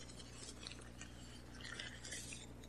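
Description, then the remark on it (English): Crinkling paper bag with small hard objects inside clicking and clinking together in an uneven, continuous rattle, fairly quiet, with no one speaking. “Nothing wakes everybody up like a paper bag with things rattling in it, right?”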